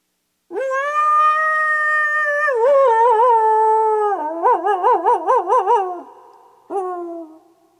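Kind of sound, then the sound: animal, coyote howling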